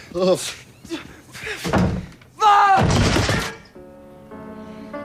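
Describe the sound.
A door slams shut once, a loud thud amid frantic shouting voices, followed by a steady, sustained musical tone as things fall quiet.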